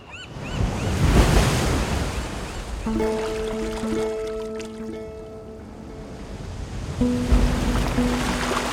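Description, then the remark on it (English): Gentle sea waves wash steadily onto a beach, a soft continuous surf with light wind, while a sustained tonal hum rises briefly in the middle and again near the end. “The sea is calm tonight, off Dover Beach.”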